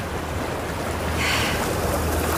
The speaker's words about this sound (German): Was war das nochmal? Ja, kann man sich bald gar nicht mehr daran erinnern. Das ist das Meer. Die Schifferl, die vorbeifahren.